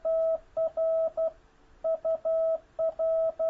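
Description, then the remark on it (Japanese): Morse code tones: a steady, mid-pitched beep keyed on and off in crisp short and long pulses, forming two quick groups with a brief pause between, with no voices. “常にトツートトロッってくるわけですね。”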